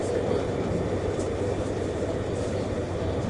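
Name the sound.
subway train running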